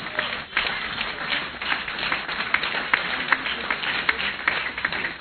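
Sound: audience clapping and applauding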